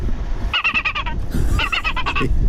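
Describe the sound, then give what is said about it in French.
Loud, harsh herring gull distress calls in two rapid bursts of repeated squawking cries, played back at Orly airport over a rumbling low background with no talking. “On reconnaît bien évidemment le goéland argenté.”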